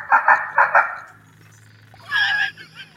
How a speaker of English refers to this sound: Sounds like a horror movie. That's Duck Dynasty. That's duck calls.